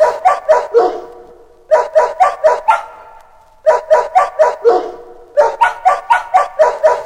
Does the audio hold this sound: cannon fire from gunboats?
no